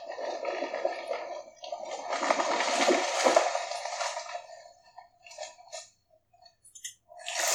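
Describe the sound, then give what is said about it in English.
A game sound effect signalling wood resources coming back: a dense, crunchy, crackling rush that swells for a few seconds, then breaks into scattered short clicks and bursts, with no talking. “So we will hear the sounds of the wood and water coming back.”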